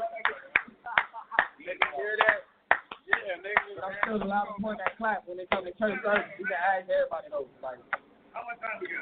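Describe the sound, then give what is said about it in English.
A run of sharp, loud hand claps in a steady rhythm as a man shows how he claps at church, then scattered claps continue as people talk and laugh over them. “And the reason why I clap like that is because when I first came in and I was clapping, I was, yeah.”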